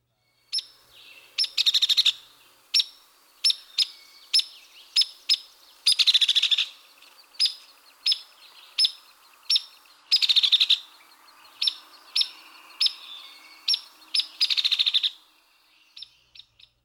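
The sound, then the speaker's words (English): A hairy woodpecker gives a steady series of sharp, high peek calls, about one per second, broken by several short, even-pitched rattles. It sounds clear, with no other sounds. “And here are the hairy's comparatively even pitched rattle and sharp peak.”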